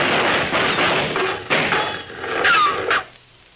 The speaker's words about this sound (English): Them was shots. There must be trouble in Murderous Gulch.